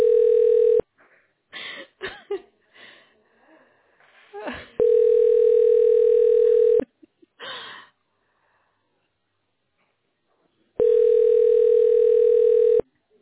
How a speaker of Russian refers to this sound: Да причем ничего не говоря, дальше гудки.